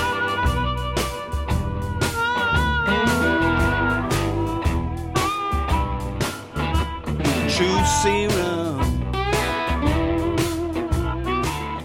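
A bluesy song plays steadily throughout, with a regular thumping drum beat, bright cymbal hits and wavering melodic lines on top, at an even, fairly loud level, with no talking over it.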